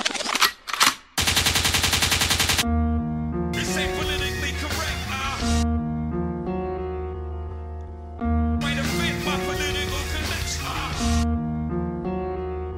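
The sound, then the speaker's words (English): Loud gunshot sound effects open the track: a couple of sharp blasts, then a quick burst of rapid fire. After about two and a half seconds, a bass-heavy music beat takes over. “Liquid means rewind, a gunshot means forward.”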